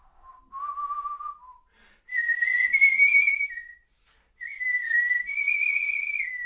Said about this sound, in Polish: A ja gwiżdżę.